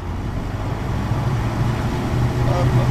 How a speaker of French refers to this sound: Donc là, je mets les freins. On va monter le moteur en régime.